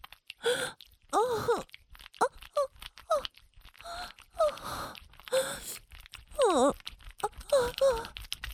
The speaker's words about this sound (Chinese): 喘息这么急促，肉棒也在疯狂的抖动。